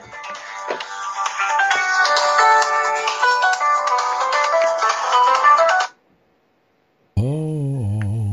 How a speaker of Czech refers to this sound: Někdo ti tam zvoní. Tak. Omlouvám se, zvoní mi telefon, jsou tak úporní.